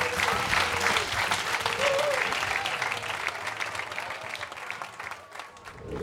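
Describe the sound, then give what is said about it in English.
Sustained audience applause, a dense wash of many hands clapping at once, steady and fairly loud for several seconds before thinning slightly toward the end, with faint crowd murmur underneath. “Wallace Annenberg, please give it up for the Wallace Annenberg.”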